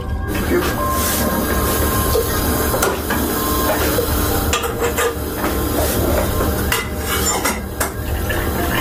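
Purified water pours steadily into a container, a loud continuous rushing splash with a few sharp clinks and knocks partway through. No one speaks.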